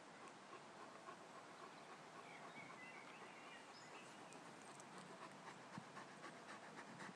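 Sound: dog panting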